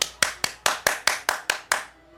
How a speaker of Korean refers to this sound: 그래서 그는 다시 손뼉을 치기 시작했다.